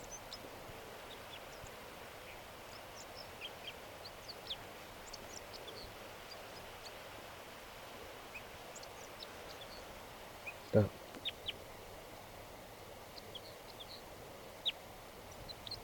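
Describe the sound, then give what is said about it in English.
Faint song of a crossbill singing in a tree behind a net: scattered short, high chips and twittering notes repeated throughout over a steady background hiss, with one brief sharp knock partway through. “A crossbill just, I just noticed that it's singing here in the tree behind the net.”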